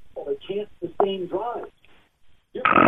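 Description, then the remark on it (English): Loud, throaty snoring of a caller who has fallen asleep on the phone, heard over a tinny phone line: a quick run of rasping, droning snorts, a short lull, then one harsh, louder snort at the end. “I mean, I snore, but that.”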